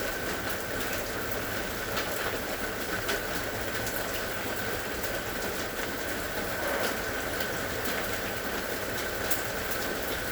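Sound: rain falling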